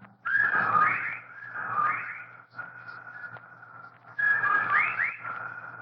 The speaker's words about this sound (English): While outside the window, a legion of whippoorwills cried loudly and rhythmically, endlessly.